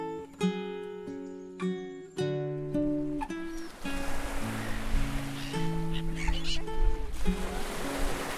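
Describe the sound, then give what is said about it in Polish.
Soft melodic notes open, then steady sea surf rushes in and fills the background while the music continues, with faint seagull calls drifting over the waves. “Mewy słychać.”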